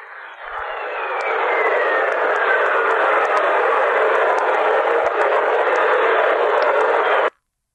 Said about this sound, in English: Would you believe that that is that whistling tone that you hear? Is actually lightning in Jupiter's atmosphere.